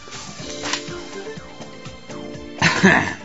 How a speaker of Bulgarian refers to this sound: Да се прокашлям от тази информация, извинявам се, че ви я зачетах.